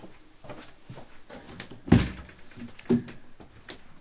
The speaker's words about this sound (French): Le 6 février, on frappa à sa porte.